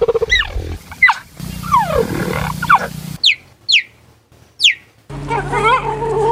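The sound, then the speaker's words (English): Happy cheetahs chirping in a series of high, bird-like calls that sweep downward, some ringing out alone in near silence and others over a steady low rumble of background noise. “These are happy cheetahs.”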